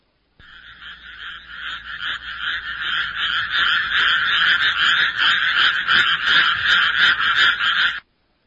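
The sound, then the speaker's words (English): A dense chorus of frogs croaking steadily for several seconds, loud, with rapid overlapping rhythmic calls and no voices, ending abruptly. “Two frogs lived in a lake.”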